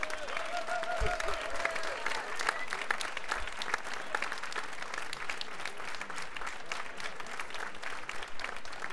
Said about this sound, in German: auch wenn hier die Bands, es sind 12 Bands, die seit gestern gespielt haben, inklusive uns, mit, wie ich sagte, 230 Musikern, das für lau machen, möchte ich doch mal, dass diesen Bands und Musikern ein besonderer Applaus gespendet wird.